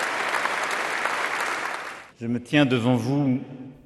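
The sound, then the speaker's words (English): Inside Notre Dame de Paris, dignitaries and clergy led by French President Emmanuel Macron applaud steadily for about two seconds for the hundreds of Paris firefighters who fought the fire, a dense, even wash of clapping, then it stops and a man begins speaking loudly into the quiet. “Inside, led by French President Emmanuel Macron, dignitaries and clergy rose to applaud the hundreds of Paris firefighters who fought for hours to douse the flames.”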